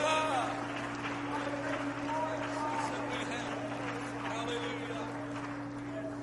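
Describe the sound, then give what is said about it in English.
An audience claps together in a dense, steady wash of applause that holds at an even level throughout, with a low constant hum and faint voices mixed in underneath. “If you're thankful for that, would you clap your hands right now?”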